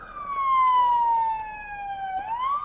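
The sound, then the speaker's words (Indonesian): A police patrol car siren wails loudly as the car arrives at the scene, its tone sliding slowly downward before sweeping back up near the end, with no voices. “Mobil patroli tiba di tempat kejadian.”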